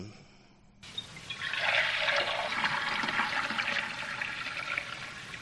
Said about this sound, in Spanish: Esto puede ser alguien que está echando un cubo de agua en algún sitio.